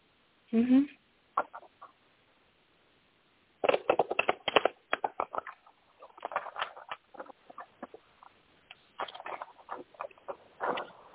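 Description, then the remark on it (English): A deck of cards being shuffled: bursts of crisp, papery riffling and clicking that start, pause, then return in longer flurries at a moderate, fairly soft level. “So I'm going to shuffle the cards.”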